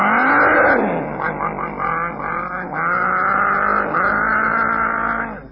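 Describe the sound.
A voice imitates the engine of a boy's car revving as he sits in it outside a high school, a continuous buzzy drone that rises, dips and surges again for several seconds, loud, with no other sounds.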